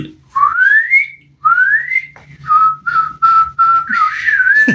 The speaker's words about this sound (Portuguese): Era alarme da Car System toda hora, mano. Porra, era chato, mano. Era chato.